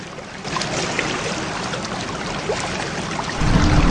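A ship moving through the water of the Atlantic Ocean: a steady, hissing wash of churning water over a low rumble that swells louder toward the end, with no voices.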